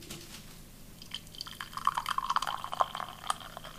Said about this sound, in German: Also Flüssigkeit rinnt in Behälter. Ja. Aber es handelt sich um Kaffee.